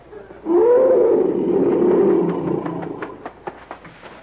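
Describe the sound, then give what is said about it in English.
A huge lion growls, one long, deep, rumbling call that trails off into a series of short, rhythmic grunts fading softer toward the end. “When a lion growls like that, he doesn't mean any trouble.”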